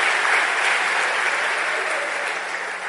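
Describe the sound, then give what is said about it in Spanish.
A church audience bursts into sustained applause for the Lord, a dense, steady wash of many hands clapping at once that holds strong throughout and eases only slightly near the end, with no voices rising above it. “Démosle ese aplauso al Señor.”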